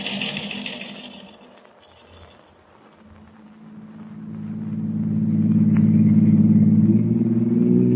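A taxi's car engine hums steadily, dipping quieter for a moment before swelling into a louder, sustained low drone as the taxi drives on. No one speaks.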